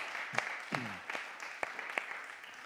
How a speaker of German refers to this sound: Und ich finde, diese Leute haben einen richtig kräftigen Applaus verdient, oder? Vielen Dank euch allen.